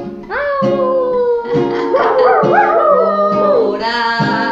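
A dog howls loudly in long, wavering cries that rise and fall in pitch, with a few short breaks between howls and no one talking.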